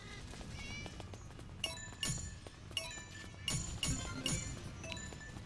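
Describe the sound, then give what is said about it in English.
Video-game cat meows, thin and tonal, as a rocket hits the cat, mixed with a string of sharp clicky hits that land every half second or so. The mix is busy and moderately loud, with no talking. “The freaking rocket hit the cat.”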